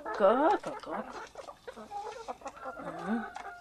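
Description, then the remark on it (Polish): Hens cluck as they are being fed, a busy, overlapping stream of short, throaty calls, loudest at the start, with a faint voice mixed in among them. “Zaraz, skóry, wam dam. Wszystko się naje.”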